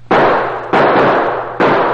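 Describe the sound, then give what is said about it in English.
Three loud .45 pistol shots ring out at uneven intervals, fired at the other car's windshield, each a sharp blast trailing into a long echoing decay that fills the gap before the next. “Give me that .45. I'll give those birds something to think about.”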